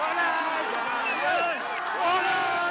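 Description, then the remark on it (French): A crowd cheers and shouts joyfully after a court of appeal orders medical treatment resumed, many voices overlapping in a loud, continuous burst of excited clamor throughout. “C'est une explosion de joie.”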